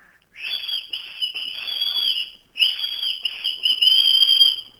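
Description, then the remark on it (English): A person whistles a tune in two long, fairly steady phrases with a short break between them, clear, with no talking. “Okay, you need to whistle.”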